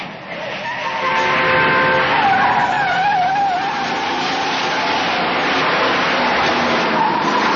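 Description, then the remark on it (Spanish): A car races loudly along a street beneath railway tracks, chasing a train at full speed and dodging other cars, with tires squealing and skidding, wavering high screeches over a steady roaring engine that stays intense throughout. “Jimmy persigue al tren por la calle que hay bajo las vías”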